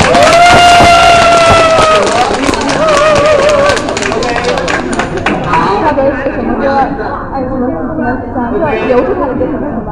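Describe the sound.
A crowd of fans bursts into loud, sustained applause to send off a singer, with high-pitched cheers and whoops at the start, the clapping continuing steadily and easing slightly toward the end amid excited voices.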